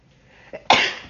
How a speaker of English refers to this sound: I think I have to sneeze again.